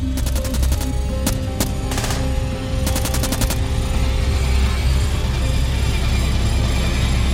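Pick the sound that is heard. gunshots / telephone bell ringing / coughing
gunshots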